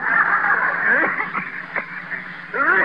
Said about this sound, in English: Hey, that's a bad cough you got there. I don't like it.